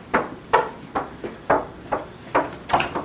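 About eight sharp, hollow thumps hit a door in a steady, quick rhythm, roughly two per second. They are close and fairly loud, with no talking.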